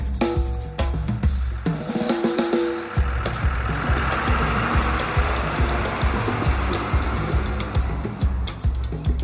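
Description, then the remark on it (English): A bus engine rumbles steadily, a deep throbbing idle with a regular low pulse and some mechanical rattle, continuing without any voices. “After almost 2 hours on the bus, you're at school now, and it's 7 a.m.”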